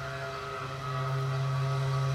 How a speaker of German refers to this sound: Das Signal zum Schichtanfang ist kilometerweit zu hören.